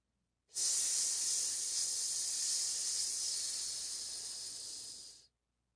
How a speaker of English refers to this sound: It took me a few seconds to figure out what was making that hissing sound. Then I saw a smoky green mist shooting up from the bottle. The thick mist rose up like a geyser, chilly and wet.